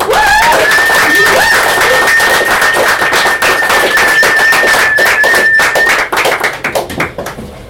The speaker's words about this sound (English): Next up, and I think this man deserves a big round of applause,